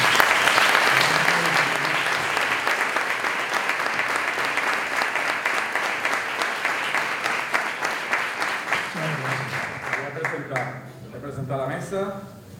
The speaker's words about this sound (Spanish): con el que quiero que le recibamos con un fuerte aplauso.